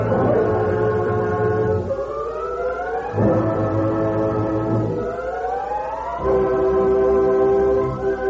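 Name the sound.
steam train whistle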